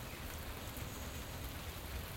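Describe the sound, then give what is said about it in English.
Steady rain falls outdoors, a continuous soft hiss of drops pattering on surfaces with no pauses or voices, fairly quiet and even throughout. “Yeah, so you probably can hear the rain then, because the drizzle's gone.”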